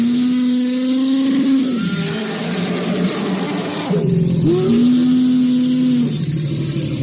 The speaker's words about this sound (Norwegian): Og hvis du syns du har hørt noe lignende hans før, så har elefantlyder vært brukt I Jurassic Park.